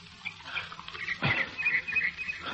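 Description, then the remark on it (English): Water is poured for someone to drink, pouring and splashing for a couple of seconds, a soft trickling stream with a brief sharper slosh midway, no voices over it. “Here now. Drink.”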